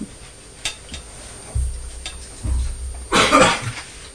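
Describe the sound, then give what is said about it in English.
A father coughs a few times, with low chesty bursts building to a louder, harsher cough near the end, amid faint background clatter and no talking. “What's Daddy doing? Daddy's coughing.”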